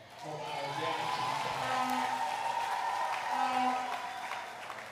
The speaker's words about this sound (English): That's how you clap hands. You know, women do not clap hands for other women properly.